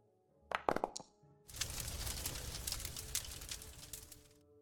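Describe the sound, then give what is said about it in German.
Dice are rolled during a game session: a few sharp clicks and knocks come first, then a sustained, busy clatter and rattle of tumbling dice for about three seconds before stopping abruptly. No voices. “Jetzt würfel ich selber.”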